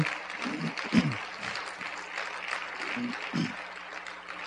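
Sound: audience applause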